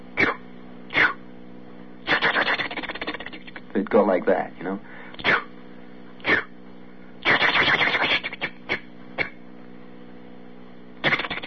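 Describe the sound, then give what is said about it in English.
A voice imitates a long freight train, put together in the rail yards by the roundhouse near the hump, departing for the west, with breathy, hissing chuffs, single puffs mixed with longer rushing bursts in an uneven rhythm, then a short spoken remark. “you would hear a train that has been put together out there in the yards by the roundhouse near the hump.”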